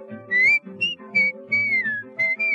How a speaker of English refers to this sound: whistle loud and long. Just come a merry tune.